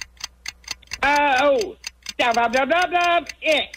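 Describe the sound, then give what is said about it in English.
A game show countdown clock, set to 45 seconds, ticks steadily at a quick, even pace, each tick crisp, while an animated voice talks over it in two stretches. “We'll put 45 seconds on the clock, and our time starts now.”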